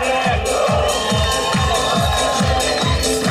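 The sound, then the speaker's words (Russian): Wedding guests clap and cheer for the newlyweds in time with loud, upbeat music as a song is sung, the rhythmic clapping falling on a steady thumping beat throughout. “Поднимайте руки, давайте хлопать!”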